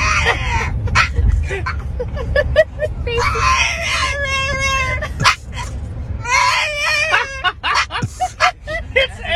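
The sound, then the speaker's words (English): A French bulldog, Linus, whines and yelps in high, wavering cries, rising into long drawn-out whimpers, over a steady low rumble of a moving car on a road trip; he gets very nervous in the car. “However, none of them are quite as good as taking a road trip with this French bulldog.”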